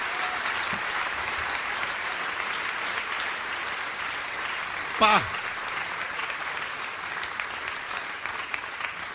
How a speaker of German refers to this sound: Das ist ein schöner Applaus heute, so wie in Japan.